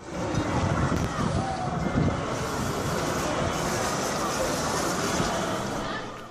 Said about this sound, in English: This is Multimedia Live's own archival audio from the bus burning in Braamfontein.